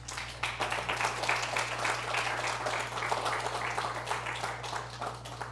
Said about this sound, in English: How many can clap your hands to the Lord today?